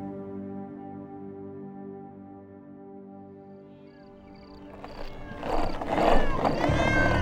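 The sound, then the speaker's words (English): A steady, humming drone runs for several seconds, then a cluster of twelve cats bursts into loud, overlapping meows and yowls that rise and bend in pitch, across town in the middle of the night. “Just following 12 cats and 1 cranky opossum all the way across town, middle of the night.”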